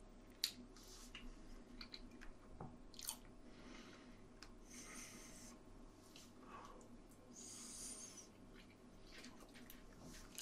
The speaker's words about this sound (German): Was mich hier matt macht, ist, wie er abbeißt. Also so kleine Stücke.